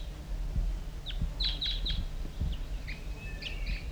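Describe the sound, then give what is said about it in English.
A series of short, sharp chirping calls from a pair of crossbills, male and female, several in quick succession, then thinner whistled notes, over a steady low rumble of background noise; the birds are in a lone pitch pine near a net site. “Now I've got a pair of crossbills in that lone pitch pine right near the net site.”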